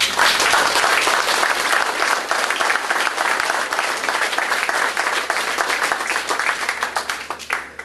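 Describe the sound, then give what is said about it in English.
Sustained audience applause, dense overlapping clapping at a steady loud level that thins slightly toward the end, with no voices audible over it. “I finally figured out how to get applause so I could get a drink.”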